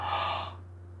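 A single breathy rush of air, like an exhale into a microphone, lasts about half a second and then fades, leaving a steady low electrical hum underneath.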